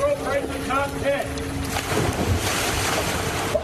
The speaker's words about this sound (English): Here, we have the great moments in tourists driving their car in the ocean history. This happened last month. Pretty sure that wasn't supposed to happen.